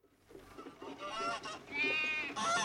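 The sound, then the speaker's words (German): A goat bleats loudly and insistently, its wavering cries running together with the honking cackle of a goose, the calls overlapping and building in strength over a few seconds. “Am nächsten Morgen wurden sie davon wach, dass ihre Ziege Zieglinde an der Bettdecke zerrte und aufgeregt schnatterte. Auf ihrem Rücken stand die Gans ganz lieb und meckerte laut.”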